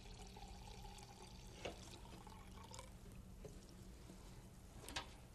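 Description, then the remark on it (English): Water runs steadily into a jar in a kitchen, filled to be used for watercolor painting, a continuous pouring hiss with a few sharper drips and splashes at moments, fairly quiet, with no talking. “Get plenty of water.”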